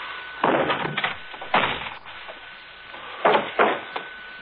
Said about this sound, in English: Unlocked? Yeah. I'll kick open the door and you stand back.